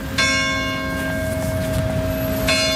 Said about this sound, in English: Church bells ring one village over in Saint-Jean-d'Illac.